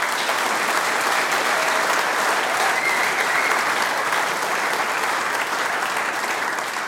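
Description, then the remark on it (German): Sustained audience applause for the performers, including a candidate for the Styrian harmonica competition: a dense, steady wash of many hands clapping at an even, loud level throughout, with no voices standing out. “Applaus für dich!”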